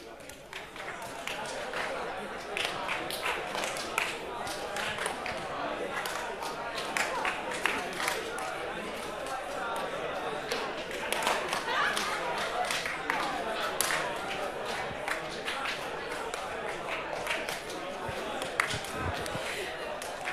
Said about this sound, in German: Ihr zählt wieder zusammen im Wechsel auf drei. Wichtig, ihr haltet den Flow. Bei eins dürft ihr entweder eins sagen oder klatschen. Bei zwei dürft ihr zwei sagen oder hüpfen. Go!